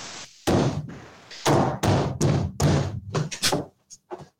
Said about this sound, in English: What's the stomping?